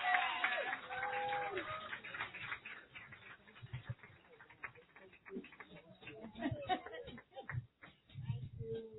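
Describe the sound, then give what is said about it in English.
A crowd applauds steadily for several seconds for a woman who passed her certification exam, a dense patter of many hands clapping, with some voices and cheers mixed in near the start before the clapping thins toward the end. “So everybody give her a hand clap.”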